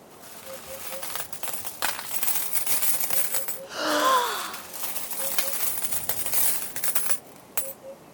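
Gold coins clink and jingle in a steady metallic clatter as a heavy bucket of dirty water, just pulled out of a well, is tipped out, with a brief watery swoosh partway through. Fairly loud, with no voices.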